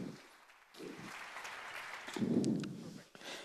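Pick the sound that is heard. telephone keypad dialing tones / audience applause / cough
audience applause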